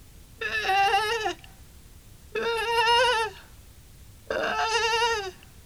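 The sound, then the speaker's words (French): A mother ewe, calling her lamb from a distance, bleats three times at a steady pace, each call a long, quavering baa of about a second, separated by short pauses over a quiet outdoor background. “Dès loin, maman l'a bécrié.”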